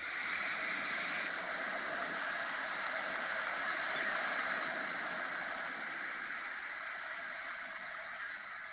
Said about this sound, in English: That's the water. That's the Gulf of Mexico. They went to Galveston, and they went by the water, and they kneeled down and prayed.